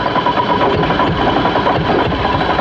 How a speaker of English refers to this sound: Of course, it's always easier if your car does, in fact, start. That one in Buffalo seemed a little reluctant.